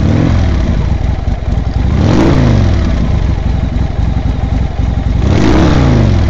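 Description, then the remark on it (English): Loud motorcycle engines of a gang of bikers in a parking lot rev and rumble continuously, with two sharp throttle surges climbing and falling in pitch over a steady, throaty idle. “When Lil arrived, she found the parking lot filled with motorcycles and surly bikers.”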